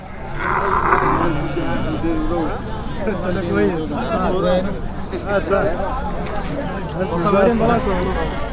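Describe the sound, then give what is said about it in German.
Busy outdoor camel market ambience in the town of Tangasi, two hours south of Kerma, where camels, cattle, sheep and goats are bought and sold; a murmur of many voices with loud, guttural camel roars and groans rising and falling repeatedly amid steady crowd noise. “Der Kamelmarkt in der Ortschaft Tangasi, 2 Stunden südlich von Kerma. Kamele, Rinder, Schafe und Ziegen werden hier verkauft und gekauft.”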